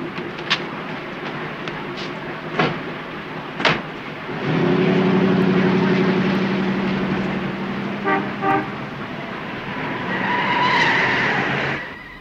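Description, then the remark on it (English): A few sharp car door clunks as a man in the back of a car opens the door for two people to get in, a long steady horn blast, then more clicks before the car engine revs and pulls away, loud, with no talking. “The man in the back of the car opens the door and invites George and Gwen into the car.”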